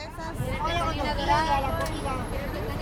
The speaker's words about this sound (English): On the bus ride out of El Salvador, we drive through inky darkness.